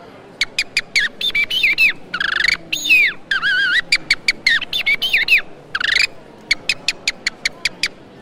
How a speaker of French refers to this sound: Ensuite, le merle.